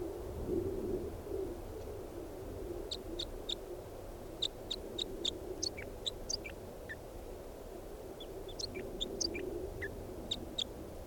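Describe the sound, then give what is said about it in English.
A bird, bird 395, sings in bursts of short, high chirps and whistled notes, repeated in quick runs with brief pauses, over a steady low rumbling background noise. “I don't know what happened to the wild bird, but bird 395 is in song and pointed at him.”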